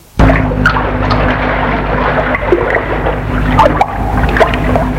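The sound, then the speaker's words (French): A steady, unbroken rush of water from a waterfall pouring down a mountainside by a lake, loud and continuous for the whole stretch, with a low droning hum running underneath and no voices. “Je me suis toujours souvenu du torrent qui se déverse sur le lac, là à gauche, et cette cascade qui se trouve en face de nous, toute cette eau qui tombe de la montagne. Tout est calme, seul le bruit de l'eau interrompt le silence.”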